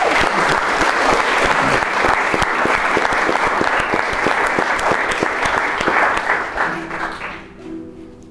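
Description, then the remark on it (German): Sustained audience applause, given in advance as encouragement before a singer performs a song: dense and steady clapping from many hands for about seven seconds, then tapering off as a faint low tone lingers at the end. “Ich würde sagen, du bekommst jetzt erstmal zur Ermutigung einen Applaus für den Vorhinein.”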